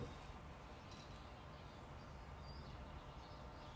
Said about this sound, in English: These birds sound hella beautiful. I'd love to hear this shit.